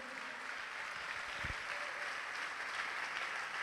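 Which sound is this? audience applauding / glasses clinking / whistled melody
audience applauding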